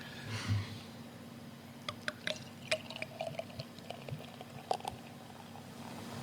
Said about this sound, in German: Hört man als Brauerin schon, wenn man einschenkt, ob das ein besonders gutes oder ein besonders schlechtes Bier ist? Ich sag mal so, wenn Bröckchen mitfallen, dann hört man es und dann ist es meist nicht gut.